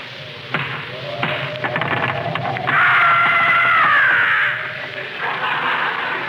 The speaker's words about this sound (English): Knock on the door, Rochester. I'm holding the jug. Okay. I'll knock, you scaredy cat.